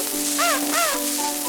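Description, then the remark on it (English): A voice imitates a parrot's squawk, giving two short, harsh, rising-and-falling cries in quick succession, loud, with no other talking. “And the parrot said, let go, let go.”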